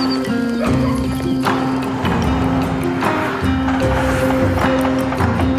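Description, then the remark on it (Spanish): Donkey hooves clip-clop in a steady walking rhythm, fairly loud, with drawn-out braying cries rising over the hoofbeats against a busy outdoor background. “En concreto, el animal es un burro.”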